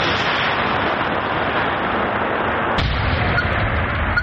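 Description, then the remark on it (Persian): A loud, dense roar of a controlled detonation destroying an unexploded aerial bomb, recorded about 500 metres away, rumbles continuously, with a sharper jolt partway through, then the heavy rumbling carries on. Nobody speaks. “بمب های هوایی و دیگر مهمات نوترکیده جنگی را به نوبت نابود می کنند.”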